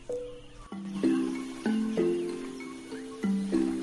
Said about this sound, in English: A man hammers a nail into a square wooden frame.